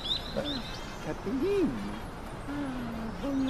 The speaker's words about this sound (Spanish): Vale, se nos acaba de poner una paloma en la nariz.